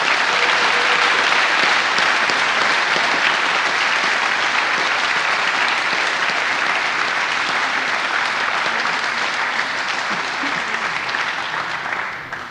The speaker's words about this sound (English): Please give a big round of applause to all our sponsors.